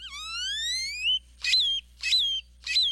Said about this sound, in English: Songs can also be dry and mechanical, like this chipping sparrow's, or jumbled and metallic, like this great-tailed grackle's.